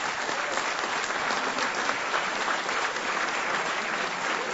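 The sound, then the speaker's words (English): Steady audience applause for the translators, a dense even clatter of many hands clapping at a fairly loud level throughout, with no voices standing out. “I think we should give them an applause.”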